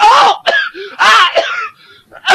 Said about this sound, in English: Oh! Now you have a cough.